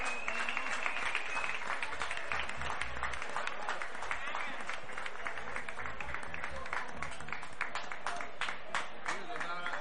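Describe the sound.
Sustained applause from a crowd in the village of Cofete as the 2024 mayoress is called to the stage, dense overlapping claps forming a steady, bright wash of sound for the whole stretch, with murmuring voices mixed underneath.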